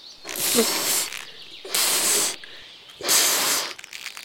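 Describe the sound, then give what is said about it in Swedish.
Three forceful, breathy puffs of air blown into a balloon by the character Ljudmonstret, inflating it for balloon post, each lasting about a second with short pauses between, fairly loud with no talking. “Oj, vad du blåser ljudmonstret. Ska du inte skicka iväg ballongen snart?”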